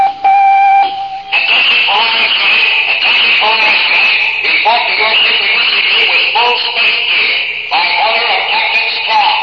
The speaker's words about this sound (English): Cadet life is quiet and routine on the Space Academy campus. Suddenly, the dormitory intercom crackles into life.